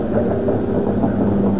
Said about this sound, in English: That plane isn't going any place. It's circling over us.